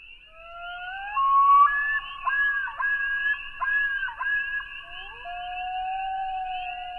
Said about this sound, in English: The echoing calls of the common loon bring magic to the northern Lake Country wilderness. Loons make several different sounds, including the undulating yodels of the male, the whale call, which sounds like the howl of a wolf,